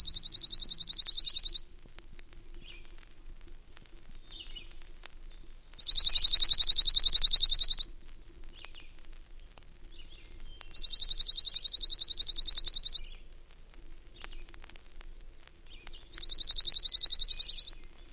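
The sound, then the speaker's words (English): A slate-colored junco's dry, rapid, chippy-like trill repeats four times, each burst about two seconds long with pauses between, clear against a quiet background. “The chippy-like trill of the slate-colored junco is a familiar sound throughout the spruce forest in summer and further south on migration.”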